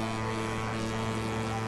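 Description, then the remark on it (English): A boat horn blares in one long, unbroken blast, a deep, steady tone holding at constant loudness for the whole stretch with no voices. “What is that? It's a boat horn.”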